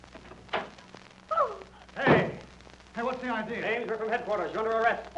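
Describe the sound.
A door is opened: a short knock-like click, a brief squeak, then a louder rushing thud as it swings, followed by people talking.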